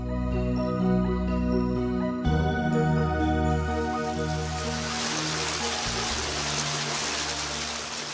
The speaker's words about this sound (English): I think it's one of the most delightful things about Rome, the way that water is everywhere. Everywhere you turn, there's a water spigot or just a beautiful fountain.